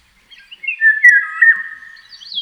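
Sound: eurasian golden oriole song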